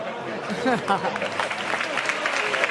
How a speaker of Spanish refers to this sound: El aplauso para el monaguillo, sí, que sí recibía, bueno, pues, esos gritos desde el gallinero y el público del gran Teatro Falla.